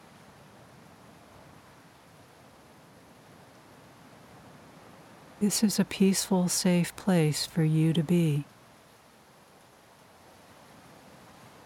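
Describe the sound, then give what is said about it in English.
A steady, soft wash of ocean surf on a sandy beach hisses throughout at an even level, with no distinct breaking waves standing out. A calm voice speaks briefly over it midway. “The sounds of the ocean surf and the rhythm of the waves calms you.”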